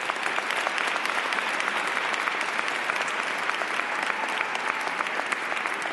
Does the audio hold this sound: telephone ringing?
no